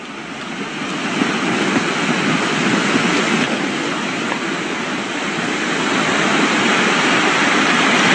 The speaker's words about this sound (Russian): Насколько я понимаю, это обрушение края воронки, потому что вся эта вода, возможно, уже свидетельствует, что часть леса провалилась.